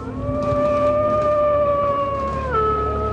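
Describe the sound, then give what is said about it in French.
A long, sustained wolf howl holds a steady mournful pitch, then slides downward near the end. It's loud, with no talking. “C'est un loup que nous avons entendu hurler.”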